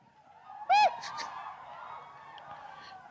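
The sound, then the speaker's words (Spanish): A single loud, nasal duck quack bursts out, brief and sharp, followed by a few fainter honking calls fading into a quiet background. “¡Hoy vengo bien pato!”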